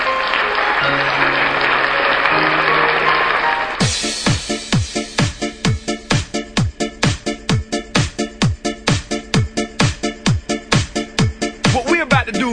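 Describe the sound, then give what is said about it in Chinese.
A crowd of wedding guests applauds the bride and groom over background music, then after a few seconds the clapping turns into a loud, steady rhythmic beat, about three claps per second, continuing to the end. “让我们把掌声送给最幸福的新郎新娘。”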